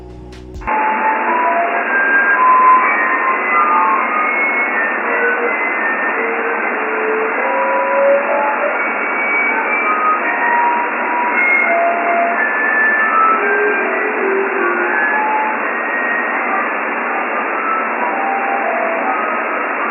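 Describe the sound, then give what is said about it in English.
A steady, narrow-band shortwave radio hiss on 6940 fills the whole clip, scattered with brief warbling whistles and garbled, reversed-sounding musical tones, like an off-tuned sideband signal. No one speaks. “Right, so sample insert here. Backwards music and whistles.”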